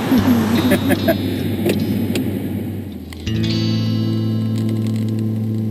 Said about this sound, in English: Yes, I am in the car, driving away from the gate. Starting to feel free.